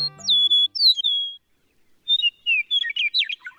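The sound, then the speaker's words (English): An eastern meadowlark sings clear, slurred whistles, one drawn-out phrase followed after a pause by a second, more jumbled run of bright notes, loud with no talking. “The eastern meadowlark's clear-whistled music is the unmistakable anthem of eastern North America's farmlands and open country.”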